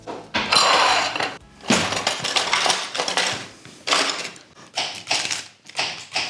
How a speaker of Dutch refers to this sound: Ja, we moeten even groenten snijden. Ja, dus, een plankje dus. Uitjes snijden. radijsjes snijden.